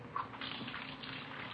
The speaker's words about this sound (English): We found her in the kitchen washing dishes.